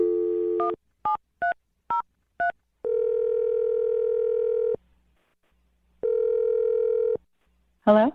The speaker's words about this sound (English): We're going to dial the phone number right now and try and get your second date update.